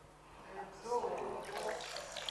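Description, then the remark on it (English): Completely dry objects being put into water, making a short burst of splashing and sloshing, with faint voices murmuring underneath. “When they are completely dry, but when you put them in water, what happens?”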